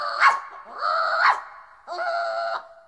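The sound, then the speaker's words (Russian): A small porcelain dog gives three high-pitched vocalizations, sharp yips running into drawn-out whimpering whines, moderately loud with no talking over them. “Слышишь, сюда бежит фарфоровая собачка.”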